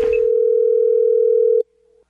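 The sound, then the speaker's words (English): A steady, loud telephone dial tone hums continuously for about a second and a half before a prank call, then cuts off abruptly, leaving a faint lingering trace before silence. “Enjoy the phone scam.”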